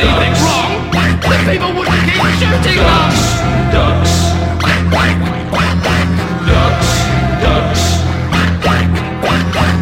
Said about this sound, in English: Ducks, ducks, quack, quack, quack, quack.